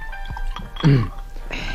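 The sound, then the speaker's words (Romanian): Liquid splashes and gurgles briefly into a glass, followed by a softer hissing trickle, with faint background noise. “Bem un pahar împreună?”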